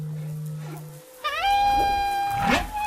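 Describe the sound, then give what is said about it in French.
Humpback whale song: a low steady hum gives way to a rising, harmonic whoop and a long sustained tonal moan, ending in a swooping upward cry, with no talking. “Avez-vous déjà entendu le chant des baleines à bosse ?”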